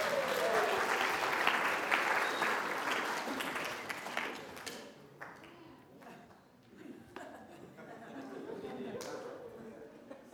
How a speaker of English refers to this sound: Thank you. Round of applause